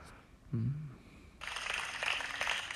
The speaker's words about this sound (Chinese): 这怎么回事啊？怎么会有个鼓掌的声音啊？不要乱点啊。